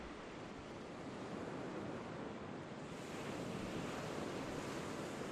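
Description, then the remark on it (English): Gentle waves of a calm, moonlit sea wash steadily in a soft, continuous hiss of surf, with no distinct breaks, a hint of wind noise, and no voices. “The sound of the waves is nothing more than a soft sigh.”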